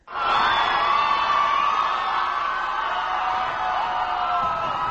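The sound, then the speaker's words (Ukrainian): A large crowd cheers and shouts continuously, a dense roar of many voices with whoops rising above it, staying loud and steady throughout without a break, greeting Barack Obama as he sets off to the Capitol. “І от сьогодні він під вітання юрби вирушив до Капітолію.”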